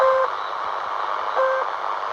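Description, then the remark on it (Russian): Repeating shortwave radio beeps from the station nicknamed "The Drip" («Капля»): two short, mid-pitched tones about a second and a half apart, resembling drops from a faulty tap, standing out clearly above a steady wash of crackly static. “Например, станция под прозвищем «Капля» регулярно транслирует повторяющиеся звуковые сигналы, напоминающие писк или капли, падающие из неисправного крана.”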